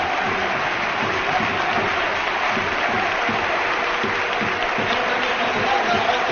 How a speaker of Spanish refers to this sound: Sí, se retira Movilla y entra Rodri. Movilla, que sale ovacionado de la Rosaleda, ¿eh? Lo quieren con locura, escúchenlo.